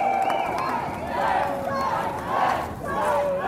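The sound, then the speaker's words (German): About 350 protesters on the Postplatz in Davos, Switzerland, chant "Strike WEF" in unison against the World Economic Forum, loud rhythmic shouted phrases rising and falling in steady waves, with whistles and scattered voices mixed into the din. “Strike WEF rufen die rund 350 Demonstrierenden auf dem Postplatz von Davos.”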